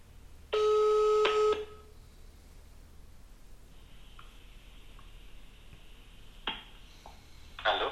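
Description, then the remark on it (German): An outgoing call's ringing tone sounds once, loud and buzzy for about a second, then gives way to a faint steady line hiss with a few small clicks and no voices. “Dennoch hoffe ich natürlich, dass er auch jetzt ans Telefon gehen wird.”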